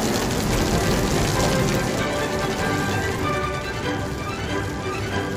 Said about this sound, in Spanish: ¡Vaya! Y ahora se pone a llover.